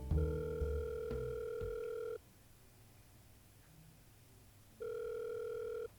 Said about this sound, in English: I picked up the phone and called the number.